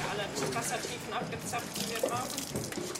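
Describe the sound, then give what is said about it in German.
Sample water runs steadily from a sampling probe into scientists' containers aboard a research ship, with a continuous splashing, gurgling rush, moderately loud, while voices murmur faintly in the background. “Daher schauen alle Wissenschaftler immer wieder auf den Abfüllplan, der an der Bordwand hängt, laufen mit ihren Behältern zur Sonde, füllen Probenwasser ab und gehen anschließend damit in die angrenzenden Labore.”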